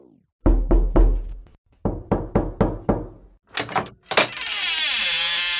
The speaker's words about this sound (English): He was a filial and kind son, which was why she was taken by surprise when on the 21st of December, 1964, the police came knocking at her door and demanded to see Su Swan.